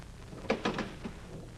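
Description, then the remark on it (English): A door being opened: a quick series of wooden clunks and a latch rattle over a second, then a softer knock as it settles, with no voices. “Well, open the door. We've done nothing wrong. Open the door, mate.”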